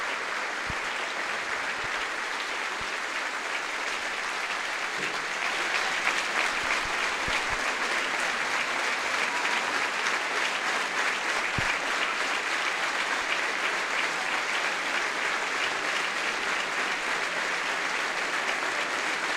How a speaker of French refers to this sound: Et nous aussi, on a essayé de respecter donc cette minute d'applaudissement.